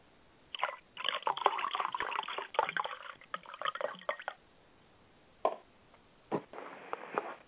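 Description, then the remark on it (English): Ale is poured in a burst of splashing, gurgling liquid lasting a few seconds, followed by a few short, softer splashes and drips before it trails off. “But now we shall pour the ale of inspiration.”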